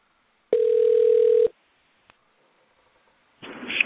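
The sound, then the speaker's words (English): A single steady ringback tone of about one second sounds through a phone line on an outgoing call, followed by a faint click and, a couple of seconds later, a burst of muffled line noise as the call reaches voicemail. “You hear the phone ringing.”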